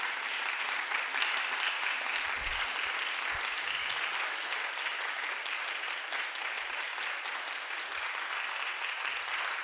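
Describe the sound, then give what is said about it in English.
A crowd claps steadily and densely for the full stretch, a sustained wash of applause with no breaks and no voices rising above it. “A round of applause, please.”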